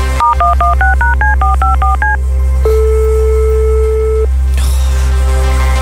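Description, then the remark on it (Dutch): A quick run of about eleven DTMF keypad beeps redials the same telephone number, Koen Wouters' number, after network problems, followed by a long, steady low tone and a click, over a constant low hum. “Dus we leggen af en we bellen opnieuw.”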